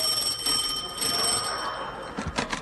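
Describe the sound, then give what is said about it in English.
A doorbell rings with a steady, high metallic tone lasting a few seconds, followed by a few brief clattering bursts at the end. No one speaks. “By the side was a bell.”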